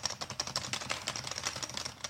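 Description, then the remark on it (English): Rapid, clacky typing on a mechanical keyboard, a steady stream of sharp key clicks, with no voices. “The FBI supplies only mechanical keyboards to their agents.”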